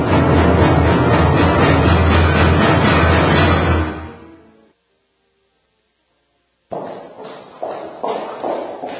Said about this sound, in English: Imagine walking down the street and hearing footsteps behind you. They get closer and closer, and suddenly you have a sense something bad is going to happen.